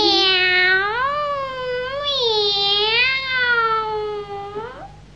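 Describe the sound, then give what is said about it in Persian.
A single long, drawn-out cat meow, loud, wavering up and down in pitch for several seconds before cutting off, with no talking around it. “این پیشی که من میبینم هم لوسه هم شیطونه.”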